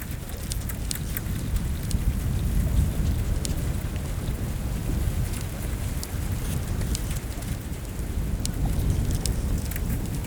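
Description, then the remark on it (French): Small wind-driven wavelets lap steadily against an icy surface in the high mountains, a continuous watery wash with a low rumble, scattered with faint crisp ticks and clicks of floating ice breaking, swept by a southwest breeze. “Des petites vaguelettes poussées par le vent montent sur la surface glacée.”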